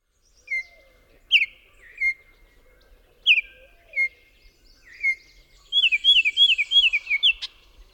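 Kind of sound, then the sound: bird, baltimore Oriole song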